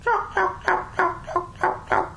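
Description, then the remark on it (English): A series of about eight raspy, rough-toned yelp calls in a steady, even rhythm, fairly loud, each note short and coarse, with no talking. “Well, what you have to do, you have to change your tone to make it sound a little bit different. And just, you have to put that rough sound in it.”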